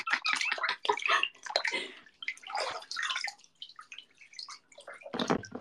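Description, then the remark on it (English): Bath water sloshes and splashes in a tub in a steady run of irregular swishes and drips with a louder splash near the end. No one speaks. “How much is this wa bath water worth to you guys?”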